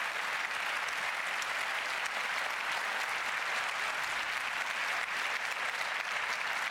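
Sustained audience applause for a speaker after her talk, a dense, steady wash of many hands clapping at an even loudness for several seconds, with no voices rising above it.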